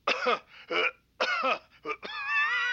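Two deliberate, exaggerated coughs, each a pair of harsh bursts, loud, followed by a short voiced throat sound trailing off at the end.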